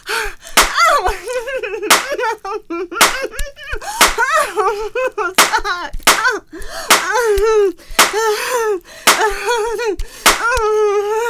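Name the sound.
hand slapping a face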